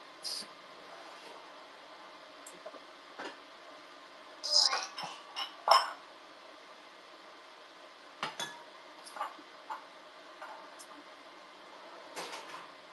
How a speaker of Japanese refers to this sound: で、鍋出して。